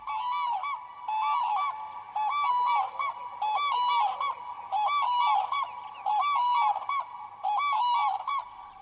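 A pair of common cranes duets in a quiet morning bog, loud rolling trumpeting calls repeating in rhythmic bursts about every second, overlapping and bugling steadily throughout with no voices present.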